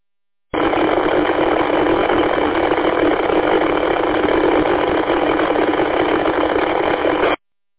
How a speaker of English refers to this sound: As I say, there's no actual words if you're saying anything, there's no audio in that way. But it sounds like a helicopter's landing, or taking off even.